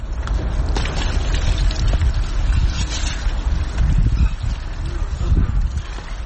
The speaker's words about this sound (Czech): Bio je to deo onoga što se može nazvati uobičajena jutarnja toaleta na jednom stepenu iznad nule ledenom vodom koja dotiče iz creva. Svakodnevno je obave stotine ljudi čiji je dom posljednjih mjeseci napušteno skladište.